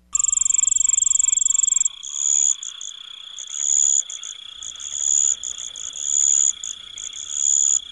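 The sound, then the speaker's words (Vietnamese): A steady nighttime chorus of crickets and toads at a campsite away from a highway, with high continuous trilling and pulsing calls repeating in bursts, prominent, with no voices. “Trời về đêm rất yên lặng, chỉ nghe tiếng dế cóc kêu thôi.”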